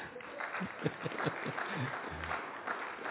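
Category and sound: crowd, audience clapping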